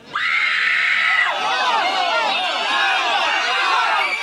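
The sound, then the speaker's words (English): A dense crowd screams in panic, many high overlapping shrieks and wails rising and falling continuously, loud, with one long sustained scream standing out at the start. “And after the anxious crowd, of course, when the fire of heaven comes down, I needed some very serious panic.”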